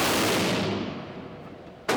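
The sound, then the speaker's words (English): A heavy .44 revolver, the kind Dirty Harry made famous, fired at a paper silhouette target, gives a loud, booming shot that rings out and slowly fades over nearly two seconds, then a second sharp shot cracks right at the end. No one speaks. “It's the heavy-duty revolver Dirty Harry made famous. Mark adjusts his feet slightly. It's getting ready to make noise. Okay. And fires.”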